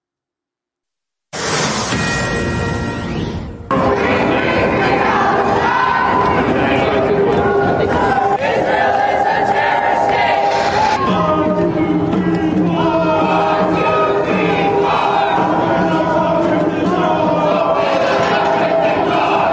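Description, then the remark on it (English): A large angry crowd of protesters at New York Police Department headquarters, protesting the police for arresting 108 people at Columbia University, shouts and chants, many voices overlapping into a loud, continuous roar that starts abruptly and holds steady throughout, with sharper individual yells rising above the din. “New York Police Department headquarters getting a taste of some angry protesters when a large crowd showed up at NYPD to protest the police for arresting 108 people who were taking over Columbia University.”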